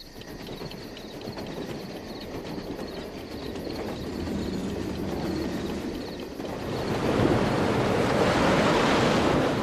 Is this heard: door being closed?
no